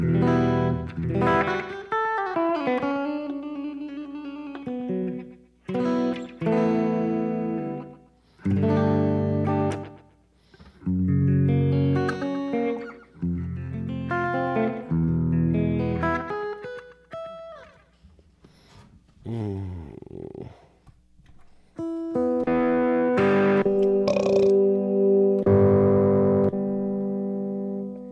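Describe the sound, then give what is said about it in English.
A compressed, crunchy distorted electric guitar using the Comp Crunch lead tone plays a lead line alone, loud, with bent notes, short melodic phrases and long sustained tones ringing out near the end. “This one I remember liking, the Comp Crunch lead.”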